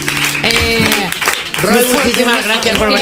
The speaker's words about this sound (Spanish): Un fuerte aplauso. ¡Vamos! Por favor.